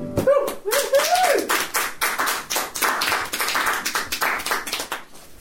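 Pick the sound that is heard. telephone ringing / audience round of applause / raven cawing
audience round of applause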